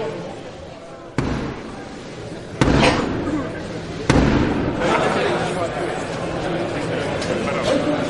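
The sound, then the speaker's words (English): Three loud, deliberate ceremonial knocks on a studio door to gain entry, evenly spaced about a second and a half apart, ringing out over a steady murmur of voices and room noise. “there you hear Black Rod knocking 3 times on the studio door to gain entry as we begin to mark the formal start of the afternoon”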